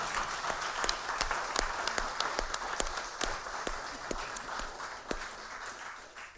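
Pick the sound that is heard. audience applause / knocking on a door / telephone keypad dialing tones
audience applause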